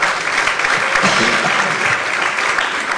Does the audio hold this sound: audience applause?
yes